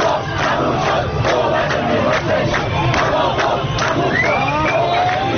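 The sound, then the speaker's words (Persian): A dense crowd celebrating in the street near Vanak Square shouts that the deal is done, cheering continuously, many voices overlapping in loud, excited bursts, with a few higher whoops and calls rising above the steady roar. “همینطوری رقص و پایکوبی کنان به سمت ونک و اینا که می رفتن، حوالی میدان ونک بود که ملت داد زدن توافق تموم شد.”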